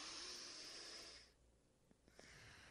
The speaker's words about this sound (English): Alternate nostril breathing has been shown to enhance cardiovascular function and lower heart rate. In Sanskrit, it's called Nadi Shodhana Pranayama.